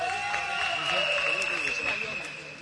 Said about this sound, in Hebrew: אבל, תוך כדי המחרוזת, הריקודים והשמחה, נכנס לכאן, רבותיי, סגן ראש עיריית בני ברק, הרב מנחם שפירא, תנו לו מחיאות כפיים.